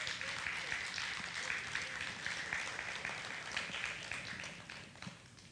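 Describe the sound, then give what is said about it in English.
Sustained applause from an audience fills the whole stretch, a dense wash of many hands clapping at steady loudness with no voices standing out. “we applaud you. We really do. We applaud you right now.”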